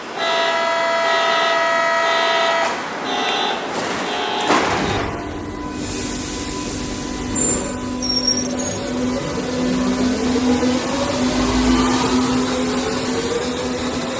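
A Berlin U-Bahn train departs Heidelberger Platz station: a steady electronic tone, then a clunk and rumble as the train starts, followed by motor whines climbing in pitch as it accelerates away, loud.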